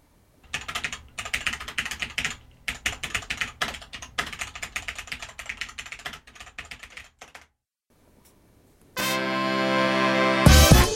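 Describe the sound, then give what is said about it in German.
Rapid, clattering keystrokes on a mechanical keyboard fill the first seven seconds in bursty runs, then after a brief pause a loud, sustained tonal music sting takes over. “Man muss das Schreiben auf einer mechanischen Tastatur einfach selbst einmal ausprobiert haben.”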